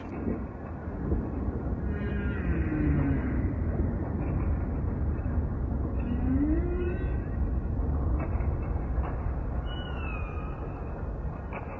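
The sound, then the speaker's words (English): Humpback whale calls, from whales wintering off Hawaii in January or February after swimming down from Alaska, rise and sweep in slow, moaning tones over a dense, steady low rumble of underwater noise mixed with sound from the volcano, with a few higher whistling glides breaking through now and then. “And just by coincidence, they were close enough to this microphone that we could hear them loud and clear.”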